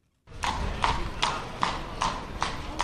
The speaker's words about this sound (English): A horse and carriage clatters through a square lined with orange trees in the warm winter sun.